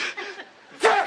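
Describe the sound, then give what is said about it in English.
A single loud sneeze bursts out near the end, sharp, with a voiced 'choo' tail. Softer breathy, snickering sounds come just before it. “Bless you.”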